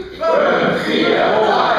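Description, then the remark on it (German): At a Hildesheim improv theatre evening by Schmidts Katzen, the men in the audience roar together on a countdown to warm up, one loud, sustained shout, a broad wall of voices that rises abruptly and holds at full strength without words. “Die Männer haben heimlich zu Hause trainiert.”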